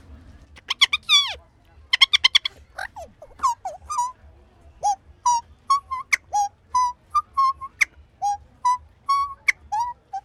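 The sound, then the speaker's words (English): A rapid, chattering series of shrill whistled chirps and squeaks, played with a small hidden whistle placed against the roof of the mouth, starting in quick bursts and settling into a steady run of short warbling notes. “You can't actually see the whistle. You put it in the roof of your mouth.”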